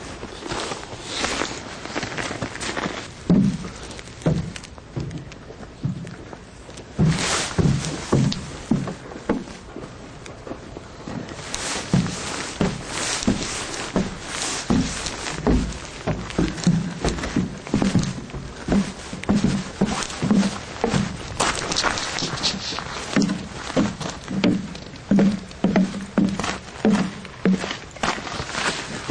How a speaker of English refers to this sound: A bunch of us just walked over a bridge, a wooden bridge over the Bond Strand, down by the sea ice transition.